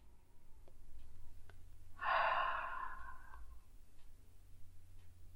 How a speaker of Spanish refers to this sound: Voy a inhalar por la nariz. Y exhalar con un poco de sonido. Inhalo. Y me voy encontrando con la repetición de ese sonido que es el sonido de mi respiración.